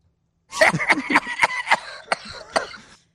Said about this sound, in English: So he had two coughs. We're going to listen to these one by one, and we will break them down here.